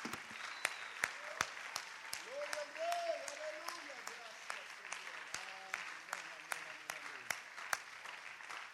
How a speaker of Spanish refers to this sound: Y la iglesia, si el Señor dice amén, dele palmas al Rey antes de sentarse.